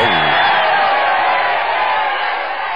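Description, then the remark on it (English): A crowd at a live holiday show claps and cheers loudly and steadily, a dense wash of applause with whoops mixed in that carries through the whole moment without a break. “give him an extra round of applause.”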